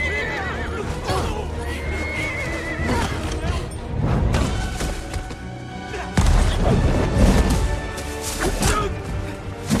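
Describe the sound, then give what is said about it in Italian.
A horse neighs and whinnies loudly, with agitated snorting, amid a dense, chaotic din of hooves, crashes and thuds filling the scene. “Prendete il cavallo!”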